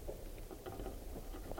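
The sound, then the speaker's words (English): Light drizzle patters softly outdoors, scattered faint taps landing irregularly over a low, steady background rumble. “It's starting to drizzle a little bit.”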